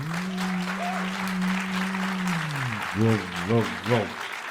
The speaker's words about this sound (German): Okay, jetzt euer Applaus.